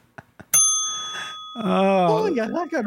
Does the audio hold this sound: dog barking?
no